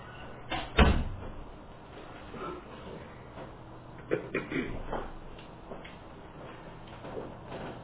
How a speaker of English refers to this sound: Will you close that door? Thank you.